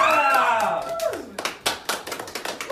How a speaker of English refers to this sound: Come on, freak out more than that. It's like golf claps.